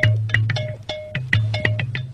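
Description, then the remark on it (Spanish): A snippet of Senegalese music from the golden record sent into space aboard the Voyager spacecraft: brisk, repeated drum strikes in a driving rhythm over a steady low droning tone, with bright ringing notes on top, loud, with no voices. “Es música del Senegal.”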